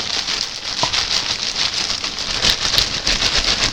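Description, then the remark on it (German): A steady crackle of a campfire, with dense hissing texture and a few sharper pops and snaps scattered throughout, continuing without any voices. “Als die beiden Hungerbild kamen, machten sie ein Lagerfeuer.”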